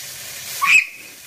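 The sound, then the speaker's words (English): Steady, bright sizzling hiss of chicken frying in hot, snapping oil as an 11-year-old girl cooks it, with a brief high whistling squeal rising out of it about halfway through before the sizzle settles again. “as she cooks chicken in hot oil.”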